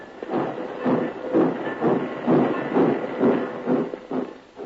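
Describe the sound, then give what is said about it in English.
A small steam locomotive, the only one working a congested railroad yard, hisses and chuffs in steady, rhythmic bursts, about two puffs per second, moderately loud, with no voices over it. “found the railroad yard in more than a mess. It was a riot. Congestion on every track, and only one tiny locomotive to do the work.”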